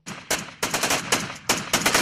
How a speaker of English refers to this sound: The sound of Kurdish fighters exchanging gunfire with Turkish forces.